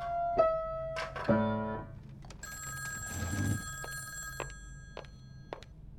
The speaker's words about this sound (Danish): Klokken er lidt i 10 om aftenen. Drengen sover. Så ringer telefonen.